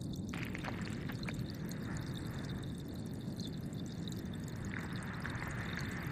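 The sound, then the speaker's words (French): A dense, steady underwater wash fills the scene, with faint crackling and occasional short clicks scattered over a low rumble of moving water, no voices present. “C'est tout sauf le silence sous l'eau. On entend des craquements, on entend les vagues éventuellement.”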